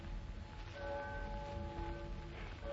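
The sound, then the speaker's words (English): A church bell strikes twelve, its resonant, humming tones ringing out and lingering over a steady low rumble of background noise. No one speaks. “You know, it has the same sort of holy quality as a church bell, hasn't it, David?”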